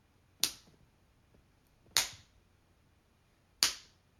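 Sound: hand slapping skin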